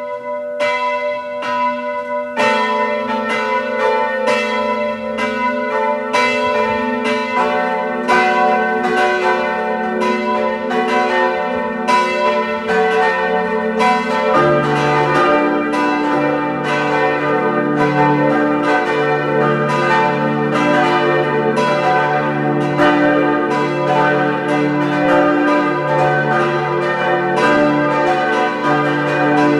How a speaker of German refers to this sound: Es ist 12 Uhr. Sie hören die Glocken der Pfarrkirche Reichenfels in Kärnten.